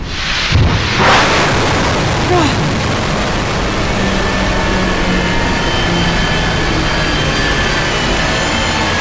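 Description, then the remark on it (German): A missile launch heard from an observation bunker: a sudden heavy boom gives way to a loud, steady rumbling roar that holds for several seconds without letting up, with no voices. “Den Abschuss habe ich mehr gespürt als gehört.”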